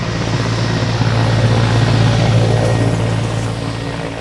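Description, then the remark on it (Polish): Loud, steady droning of a military transport airplane's large propeller engines, a continuous low rumble with a constant tone running throughout, with no voices. The plane holds up to 75 paratroopers or 45 passengers. “Ilu ludzi zmieści się w takim samolocie?”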